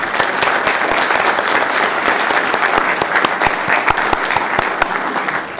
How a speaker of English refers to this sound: I would like to give them all a round of applause.